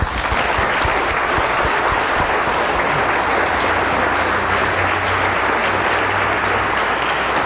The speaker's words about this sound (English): Why don't we just thank the Lord Jesus? Give Him a big hand clap.